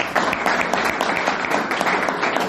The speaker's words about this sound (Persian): عالی تشویق.